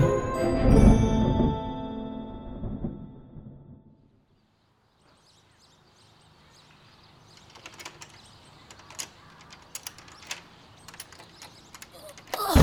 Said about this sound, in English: There we go. That front door was sticking even when I was a kid. 100 years ago.